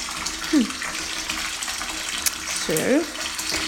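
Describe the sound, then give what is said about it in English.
A bath bomb fizzes in bath water: a steady, crackling hiss runs throughout, with two short gliding tones rising over it, one early and one near the end. “And then I'll record putting a bath bomb in because it fizzes.”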